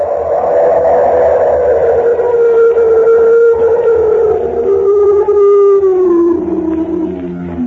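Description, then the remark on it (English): A loud, drawn-out howl of a mountain monster on a high pass at the Tibetan border, like a monstrous roar so violent it shakes the ground, sustained for several seconds and slowly sliding downward in pitch, with no voices and a low rumbling undertone. “Oh, heavens, it was an animal, unquestionably. Why, it was so loud, so violent, that it actually shook the ground under my feet.”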